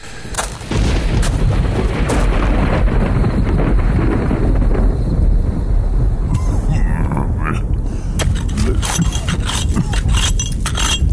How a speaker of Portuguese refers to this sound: A chuva começa a aumentar.